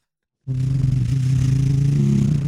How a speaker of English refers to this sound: And he's firing up the engines. Yeah. The Bunk Tech Bunker Alarm 3000 is also diesel-powered. It's not eco-friendly.